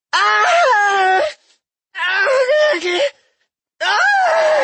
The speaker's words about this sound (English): The test subject started screaming her lungs out. These were no longer lustful half-moans brought on by one's kink, but the wailing of a woman being tortured.